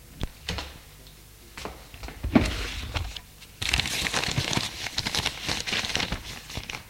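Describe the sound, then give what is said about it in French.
A desk drawer slides open with a few soft knocks, followed by a sustained rustle and crinkle of drawing paper sheets being taken out and handled. No one speaks. “Ouvre le tiroir et en sort des feuilles à dessin.”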